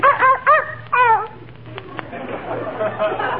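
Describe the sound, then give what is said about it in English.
Fifi, a small dog, gives three or four quick, high-pitched yaps in a busy post office at Christmas, followed by a soft murmur of background chatter. “Fifi is a very intelligent dog and very valuable, too.”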